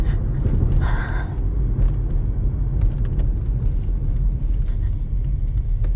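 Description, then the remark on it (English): A truck engine rumbles close by, a loud, steady low drone that fills the whole stretch with no pauses and no voices over it. “There's a truck next to me.”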